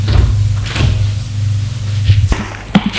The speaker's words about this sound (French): La porte de la chambre du fils est ouverte.